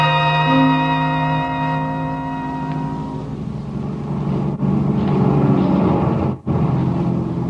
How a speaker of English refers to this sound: Get the plane warmed up for me, will you?